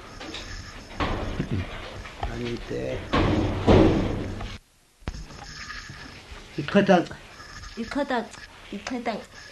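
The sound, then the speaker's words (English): A door bangs shut with a loud, heavy thud amid gusty rushing noise, followed by a brief moment of silence; voices talk before and after. “Okay, we just have a pause for the wind and the door.”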